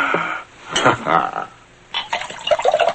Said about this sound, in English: Doug pours more liquor into his glass.